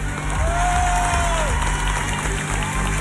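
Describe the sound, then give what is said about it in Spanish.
A large crowd claps and cheers steadily for the whole stretch in applause for Franco Parisi during a speech, a dense wash of applause with one rising whistle cutting through near the start. “Por eso, lo que ha hecho Franco Parisi no es menor y se merece nuestro respeto y nuestro aplauso.”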